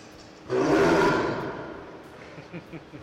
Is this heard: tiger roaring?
yes